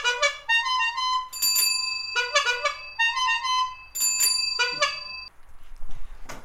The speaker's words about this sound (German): Also, wir sind jetzt da, wie man es gerade am Klingeln gehört hat.